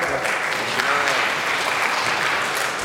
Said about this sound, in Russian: Я ничего не сделал, что хлопаете. Но все равно спасибо. Спасибо. Очень приятно, что меня так приветствуют.